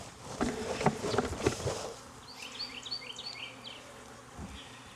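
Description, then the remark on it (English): A dense drone of honeybees buzzing as a beekeeper shakes a hive frame, with loud rattling, thumping bursts over the first two seconds, then a steadier, quieter hum with a few high chirps. “I'm gonna put my veil on before I shake because these guys are acting a little bit testier.”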